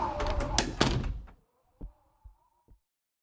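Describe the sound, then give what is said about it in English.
A door is unlocked with a key and opened with a burst of metallic rattling and scraping, then three soft, spaced thuds as it settles, followed by quiet. “Where is that key? There it is. All right. I'll leave it for you just inside the door, okay? I'm coming in”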